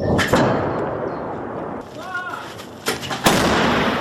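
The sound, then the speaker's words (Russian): A Ukrainian artillery gun fires several heavy, booming blasts, one early and two close together near the end, each with a sharp crack followed by a rolling rumble over steady low noise. “Главная задача сейчас украинских артиллеристов – стрелять максимально быстро и максимально точно.”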